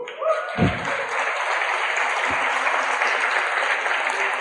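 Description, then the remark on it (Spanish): An audience applauds steadily for a couple's 27 years of marriage, a dense wash of clapping hands with a couple of low thumps near the start, moderately loud and unbroken by talk. “¡Qué bueno, 27 años, un aplauso!”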